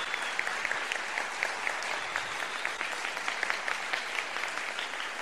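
Steady applause from a crowd, a dense wash of many hands clapping at an even loudness for several seconds, with no voices standing out.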